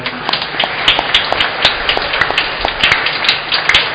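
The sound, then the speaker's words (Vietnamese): An audience at a church Mass claps steadily for several seconds to congratulate those whose patron saint's feast is that day, a dense wash of many overlapping hand claps with sharp individual smacks standing out, fairly loud and even throughout. “Xin lần nữa chúng ta hãy chúc mừng những ai có thánh bổn mạng là hôm nay do Kim và Anna được tràn đầy hồng ân của Chúa bằng một tràng vỗ tay.”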